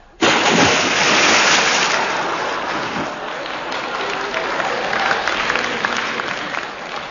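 A sudden, loud splash as something plunges into water, followed by several seconds of churning, spattering water noise that slowly settles. No voices.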